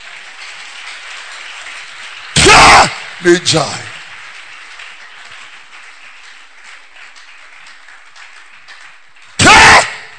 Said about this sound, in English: Are you clapping?